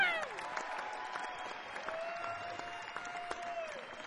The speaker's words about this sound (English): Please give them a big, big round of applause. One of the most gifted musicians I've ever met.